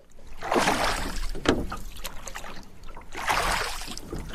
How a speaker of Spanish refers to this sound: Bueno, pues ahora ya remando, puesto que tenemos un río próximo en el que además se puede hacer rafting, ¿no?